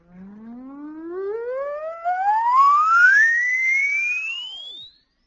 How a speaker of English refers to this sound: I'll play an oscillator for you. You write down a mental note of where you can't hear anymore.